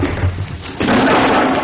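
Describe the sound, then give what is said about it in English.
A door creaks open on unoiled hinges, a groaning, low-pitched rasp that swells suddenly partway through and holds steady and loud to the end, with a faint thump beforehand. “That's the door. Oh, don't worry. Just needs a bit of oil on the hinges, that's all.”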